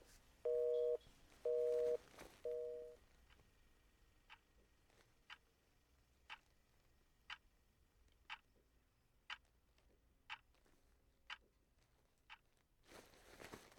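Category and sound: signal or alarm, phone call tone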